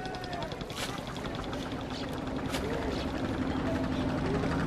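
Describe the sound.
Steady rumble of boat engines on the river at Varanasi, India, boats ferrying tourists, a continuous droning hum with faint chugging pulses, surrounded by outdoor bustle and indistinct voices.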